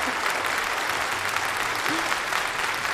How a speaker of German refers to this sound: Also nochmal alles zusammennehmen, das letzte Restchen Kraft, das ihr nach so einem Messetag habt, für den Applaus für unseren Live-Podcast. Let's go! Woohoo!